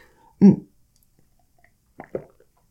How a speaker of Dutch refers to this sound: Een slokje water.